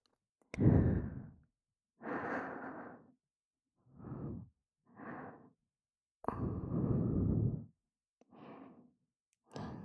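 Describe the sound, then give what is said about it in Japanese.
Soft, warm breaths blown into the ear in a slow series of about seven airy puffs, some long and full, others short and quieter, with silent gaps between them and no talking. “ささやくし、暖かい吐息も吹きかける。”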